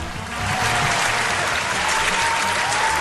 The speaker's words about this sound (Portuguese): Palmas para a Secretaria de Segurança Pública do Estado do Maranhão.